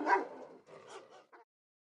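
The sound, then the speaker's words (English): A dog barks in three quick bursts: a strong opening bark, a drawn-out second one, then a short final yelp, with no voices around it. It is the neighbor's old dog, Jed, outside in the garden. “The growling sound outside had changed to loud barking. It was the neighbor's annoying old dog, Jed.”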